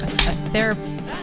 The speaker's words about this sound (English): Why were you so distracted by me cracking open a refreshing cheer wine? It was a very loud, like I felt like it was, you intentionally held your can of cheer wine very close to the microphone as you opened it.